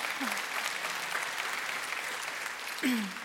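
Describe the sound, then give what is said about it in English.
A crowd applauds steadily throughout, a dense wash of many hands clapping at an even level, with a couple of brief voice-like swoops rising out of the noise near the start and end. “yeah, you can clap for that if you want to.”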